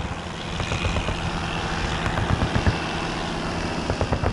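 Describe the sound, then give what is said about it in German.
The small 100 hp engine of a Taube light aircraft with bamboo-and-fabric wings drones steadily, a dense, rough buzz with a low throbbing pulse and occasional sharper clattering bursts. No voices are heard. “Die Taube ist ein Leichtbauflugzeug mit Tragflächen aus Bambus und Stoff und einem kleinen 100 PS Motor.”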